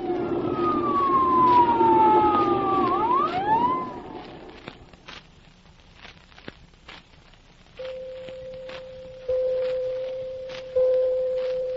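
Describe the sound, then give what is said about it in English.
An ambulance siren in a small Mississippi town wails loudly with sweeping, falling and rising pitch, then fades away. Scattered clicks follow before a steady, sustained tone comes in, stepping louder in bursts. “The siren came. And the ambulance appeared.”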